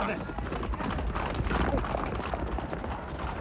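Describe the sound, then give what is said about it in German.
Racehorses gallop past as they come into the bend of a race, a dense, continuous rumble of thudding hooves, steady and fairly loud throughout, with an indistinct murmur of voices mixed in. “Da kommen sie schon in die Kurve.”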